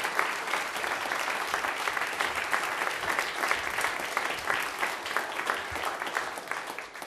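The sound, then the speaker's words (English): A church audience claps their hands in sustained, dense applause to thank their pastor and his wife, a steady crackling wash of many overlapping claps at an even loudness for the whole stretch, with no voices standing out. “could you just give a hand clap to them and thank God for them?”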